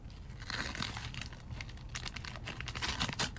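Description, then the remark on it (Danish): Night-sky-blue wrapping paper printed with stars crinkles and tears in a quick, busy flurry of sharp rustles, continuous for a few seconds with brief louder snaps near the end, as a gift is unwrapped. “Er den ikke flot pakket ind i det nathimmelblå papir med alle stjernerne på? Du må gerne pakke den op.”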